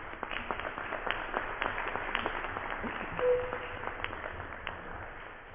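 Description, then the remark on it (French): A roomful of people claps steadily for several seconds, a dense, even patter of applause that sounds slightly muffled and held at a moderate level throughout, with a brief voice-like tone partway through. “Je pense que ça vaut des applaudissements.”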